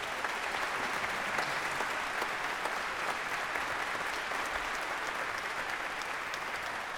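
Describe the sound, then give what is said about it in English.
Sustained applause from a large audience for the Houston Symphony's woodwind section, a dense, steady wash of clapping that holds at an even level for several seconds with no voices standing out. “How about a round of applause for the Houston Symphony's woodwind section?”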